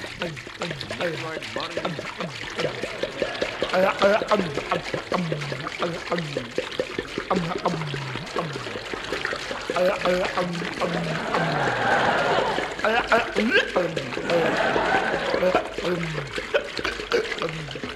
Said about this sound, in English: Put this funnel in his mouth. Pass me that 5-gallon jar of alcohol. Taking precaution now. Pouring it.